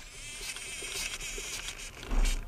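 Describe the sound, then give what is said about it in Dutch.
Small motors in an animatronic face demonstration model whir as it changes its facial expression, in a high, thin buzzing whine that rises and falls in short overlapping bursts, with a louder low rumble swelling briefly near the end. “Je zal hem zelfs de motortjes horen trekken als hij zijn gezicht vertrekt.”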